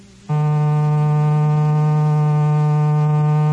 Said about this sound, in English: An electrical buzzer,